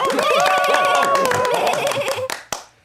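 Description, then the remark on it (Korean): Dense group applause, many hands clapping rapidly in a steady roar with cheering voices mixed in, then tapering off into a few scattered final claps. “다들 박수.”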